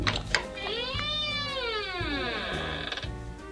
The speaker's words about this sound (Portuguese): Uma porta se abrindo. Será que é de algum filme de terror?